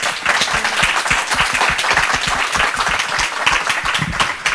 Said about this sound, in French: Terence, on peut l'applaudir, Rebecca Anton.